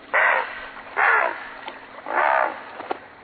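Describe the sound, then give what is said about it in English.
Three harsh, croaking squawks from a great blue heron giving its territorial call to challenge and scare away intruders, including other great blue herons, while defending its feeding area in fall or winter. Each squawk is loud and raspy, lasting about a third of a second, spaced evenly with a few faint clicks between them. “The herons challenge and scare away intruders, including other great blue herons, by sounding this call.”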